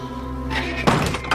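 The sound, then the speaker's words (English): The heavy door of a refrigerated beer truck in a parking lot slams shut, shutting people inside, with one solid thunk and a brief rattle, set against a steady low mechanical hum that runs throughout. “She shuts them inside.”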